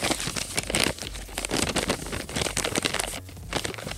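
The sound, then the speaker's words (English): Continuous rustling and crinkling of scratch paper as a question slip is dug out and pulled from a repurposed Kleenex tissue box, with brief crackly bursts over about four seconds and no talking. “as we pull a TRQ, a totally random question out of the box”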